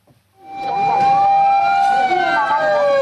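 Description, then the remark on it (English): Loud emergency sirens from ambulances and fire engines assembling in front of a cruise ship moored at Yokohama Port, Japan, wail together, their overlapping tones rising in after a brief quiet moment and holding steady, with faint traffic noise beneath. “As more ambulances and fire engines assemble in front of the cruise ship moored at Yokohama Port, medical staff have been offloading infected passengers.”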